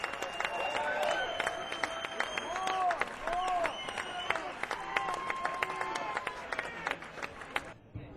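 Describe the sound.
A crowd at a live show claps steadily for a performer while voices cheer and whoop over the dense patter of hands, holding a fairly loud, even level for about eight seconds before cutting off abruptly.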